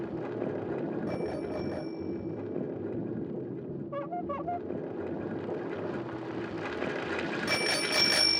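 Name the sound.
bicycle bell ringing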